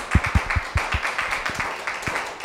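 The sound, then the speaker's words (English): A crowd claps steadily for a couple of seconds after a presentation, a dense patter of many hands with a few louder claps standing out at the start. No one speaks. “Well, let's give another round of applause, please.”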